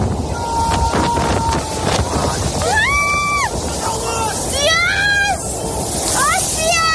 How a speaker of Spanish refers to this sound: Las olas, a su paso por Portocolom, en Mallorca, golpeaban la primera línea de playa ante la sorpresa de curiosos y turistas. Nieve, lluvias de hasta 200 litros por metro cuadrado, rachas de viento superiores a los 120 kilómetros y olas de 14 metros.